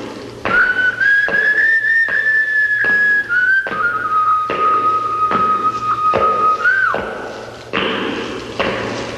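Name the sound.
whistling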